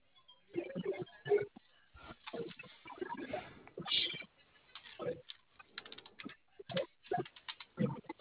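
Rapid, irregular clicking of keys on a computer keyboard, fairly quiet, with short bursts and pauses like someone typing in spurts.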